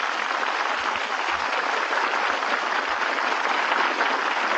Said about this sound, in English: Thank you. Thank you so much. Thank you, ladies and gentlemen. Your applause is very gratifying to me.